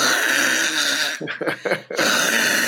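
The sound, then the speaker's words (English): A voice imitates the loud snoring of a man lying on a bed: a long, harsh rasping snore, a few short choppy gasps, then another grating snore, with no talking. “I don't snore like that.”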